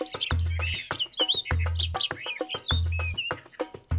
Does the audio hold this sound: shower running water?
no